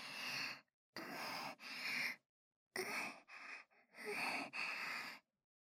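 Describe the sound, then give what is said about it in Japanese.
Heavy breathing in a series of loud, rasping breaths, about seven in quick succession with short pauses between, mixing deep inhales and forceful exhales. No one speaks. “息遣い、とてもエッチ。”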